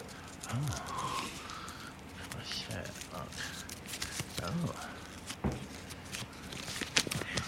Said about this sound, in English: Yeah, get the note out. You can just get that out there. It's an antique, you say? It's an antique. It's many, many years old. Okay, I'm just going to get that bit of paper out of there. Unravel it.